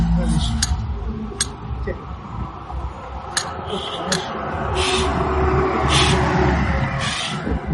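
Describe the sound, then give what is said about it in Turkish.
Cars pass by on a busy street in Üsküdar, a steady low rumble of traffic that swells slightly toward the end, with a few sharp clicks scattered over it. “Bu arabaların sağda soldan geçişiniz ter olarak.”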